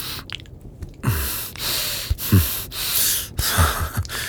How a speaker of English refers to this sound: You're breathing. Sounds like I'm hurting you a little.